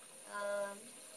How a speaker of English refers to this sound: Alright, I have the bath running.